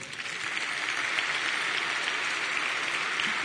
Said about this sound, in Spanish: mi esposa y protagonista del film, para quien pido por favor un fuerte aplauso.